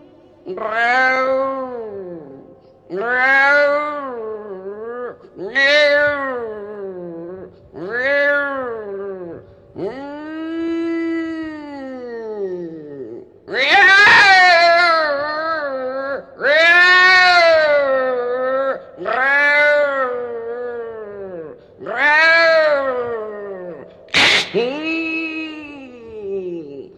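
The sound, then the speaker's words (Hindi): A voice imitates a cat pouncing on a mouse, letting out about ten loud, drawn-out yowling meows in quick succession, each rising and falling in pitch, with short gaps between them. “चूहा पर बिल्ली झपटी, समझ गई? अच्छा, कैसे कैसे झपटी जानती हो?”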